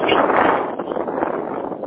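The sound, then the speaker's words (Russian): Loud, steady rushing noise of wind buffeting a microphone, filling the whole clip with rough, fluttering gusts and no voices. “слышу ветер.”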